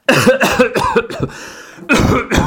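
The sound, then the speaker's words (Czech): A person deliberately demonstrates a cough in a quick series of harsh bursts, trailing into a raspy throat sound, then two more loud coughs after a brief pause. “Takže kašel bude asi nejlepší, když vám to předvedu tímto způsobem.”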